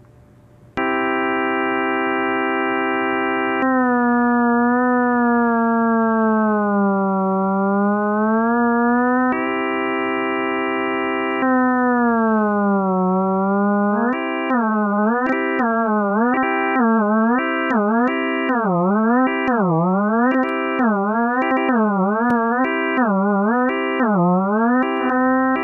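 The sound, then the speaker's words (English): Electronic feedback tones from a 3D scanner indicating scan quality while a person's head is scanned: a steady harmonic tone with slow pitch glides, then rapid rising-and-falling warbling beeps in a quick rhythm, loud and continuous with no speech. “It will take a few moments for me to do the scan, and during the process, you will hear audio tones that give me feedback on the quality of the scan.”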